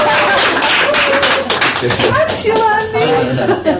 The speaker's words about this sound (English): It was initially run for primary teachers, and we have some graduates of the first cohort in the room. Give us a wave. Oh, a round of applause, come on.